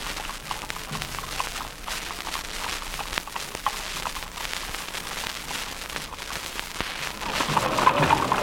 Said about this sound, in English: Here are some children riding ponies. You can hear the clop of these horses' feet on the pavement. Listen to this.